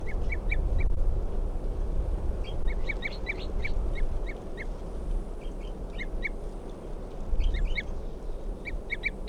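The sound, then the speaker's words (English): A wild bird toops in clusters of short, high, repeated notes, pausing between bursts, over a steady low rumbling background. No one speaks. “It's a wild bird tooping there.”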